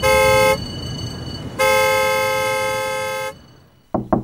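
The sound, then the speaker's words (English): Two loud, sustained car horn blasts, a short one then a longer one, ring out over rumbling traffic noise, followed by a couple of quick, fainter honks. “Look at the traffic. You think they'll get out of the way?”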